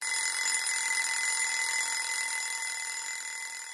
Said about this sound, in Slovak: Budík nemilosrdne pripomínal spáčom zababušeným vo vyhriatých perinách, že je čas vstávať.